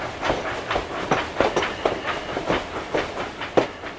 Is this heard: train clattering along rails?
yes